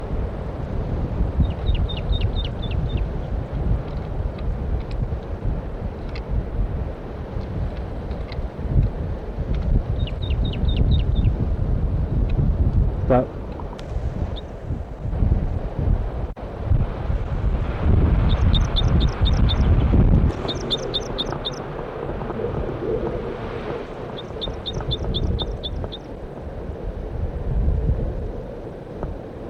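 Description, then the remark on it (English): A male bird on Price Mountain sings the same two short, high trilled phrases again and again at regular intervals, while the female is on a nest. A steady low rumble of engine or wind noise runs underneath. “Male in song, repeating those two phrases many times, and the female on a nest.”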